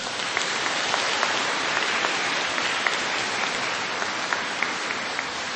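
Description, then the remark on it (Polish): Steady applause from an audience in a church at a gathering in the Diocese of Tarnów, Poland, for the organizers, filling the whole stretch with a dense, even patter of many hands clapping at a constant moderate loudness with no voices over it. “Więc już teraz, na samym początku, brawa dla organizatorów naszego spotkania, dla tych wszystkich, którzy przyczynili się do tego, że dzisiaj w tej pięknej świątyni możemy razem wielbić Pana Boga.”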